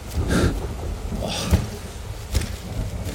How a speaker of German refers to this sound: Ich will hier nicht ertrinken im Regen.